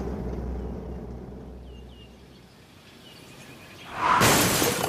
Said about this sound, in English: What was that noise? It was an owl. No, I heard a crash. Magnus and Claudia had an accident. Magnus drove into a tree.